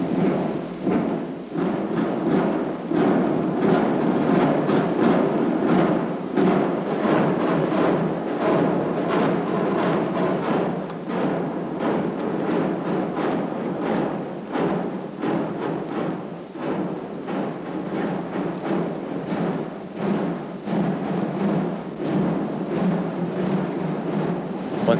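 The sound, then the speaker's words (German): Drums of two marching columns of an SS drum corps on the Ludwigstraße roll steadily and loudly for the whole stretch, a dense rumbling beat of many snares and drums with steady rhythmic pulses and no voices, at an SS swearing-in ceremony. “Immer und immer wieder, sich einhämmernd in die Gehirne, sich einhämmernd in die Herzen, die Trommelschlägel und die Trommelwirbel der beiden Züge von der Ludwigstraße her.”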